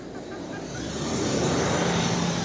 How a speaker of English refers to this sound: Bus is crossing. Yeah, in terms of Jerusalem, it's a very crowded street here.